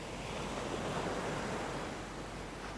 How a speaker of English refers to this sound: I've managed to get myself to the edge of the water, watching the waves barely touch my shoes.